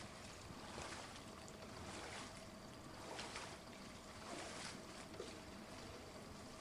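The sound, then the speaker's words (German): Soft, continuous water sloshing and lapping in a swimming pool as two girls drift slowly through it, gentle swells that rise and fall every second or so, steady and unhurried, with no voices. “Nur das langsame Plätschern des Wassers ist zu hören.”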